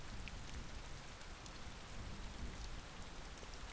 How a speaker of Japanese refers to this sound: 雨が流れている。